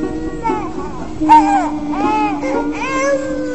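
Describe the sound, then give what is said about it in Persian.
A baby cries in a string of wavering, high-pitched wails, several bursts in a row, with a steady low hum running underneath. “شاید این گریه و نارامی دلیل دیگری دارد.”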